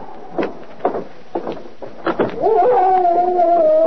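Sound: dog howling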